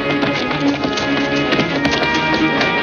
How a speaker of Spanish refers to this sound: Por el camino se acercan varios jinetes y una carroza. Uno de los asaltantes vigila a la puerta de la taberna. ¡Rápido, muchachos! ¡Se acercan caballos! ¡Corred!